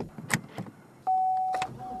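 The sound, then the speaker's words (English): A Lincoln car's electronic warning tone sounds as a steady, fairly loud beep held for about a second, preceded by a few soft mechanical clicks and thumps. No one speaks. “All those chirps and dings your car makes carefully in tune.”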